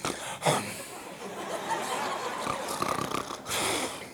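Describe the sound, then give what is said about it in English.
A person mimics the snoring of a turtle that came out of the water and fell asleep in the sunshine, making a few rough, raspy breaths in a row, fairly loud and sustained, with a short sharp snort near the start and no speech. “This turtle comes out of the water. He's just sitting there. He's in the sunshine. And he falls asleep.”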